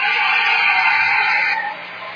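A dense wall of high-pitched screaming from a huge crowd, loud and unbroken, easing slightly in volume toward the end.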